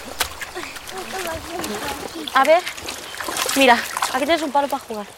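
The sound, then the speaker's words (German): Water splashes and sloshes repeatedly as a small group of women wash laundry in the clear water of a river by a lush green riverbank, a steady wet slapping, with several voices chattering over it. “Sie waschen im klaren Wasser des Flusses.”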